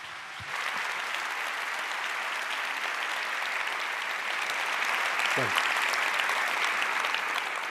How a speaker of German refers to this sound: Ja, bitte einen warmen, ganz herzlichen Applaus für Peter Schaar.